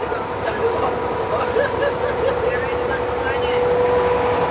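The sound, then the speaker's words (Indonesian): A boat engine drones steadily and loudly throughout with a constant hum and rushing water noise, while faint voices come and go underneath. “Wah, itu depan perahu ini ngeri kan. Dia kan ngeremnya nggak tahu.”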